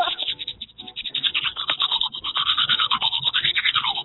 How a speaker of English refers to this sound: He's brushing his teeth. Hasn't that toothbrush been somewhere bad?